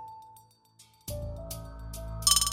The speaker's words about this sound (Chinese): 吃到一半的时候，突然间他听到他房间里的电脑响起了通知音，他觉得有点奇怪，于是站起身走进去房间里面查看他的电脑。